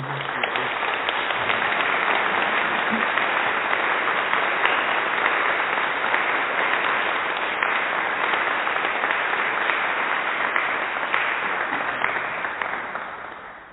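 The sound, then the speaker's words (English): An applause sound effect played from a button: a sustained burst of crowd applause plays steadily for over ten seconds, dense, even clapping with a slight cheer early on, fading only at the very end. “Can you give him an applause for me, Dave? Just hit the applause button for me on my behalf”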